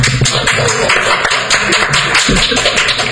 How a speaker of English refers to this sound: a small audience, but let's go ahead and vote by applause. And you watching by television, you'll have to decide on your own who you think did the better job. But let's, if you think this did the better job, applaud, please. And how about this side?